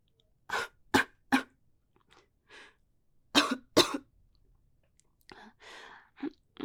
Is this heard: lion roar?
no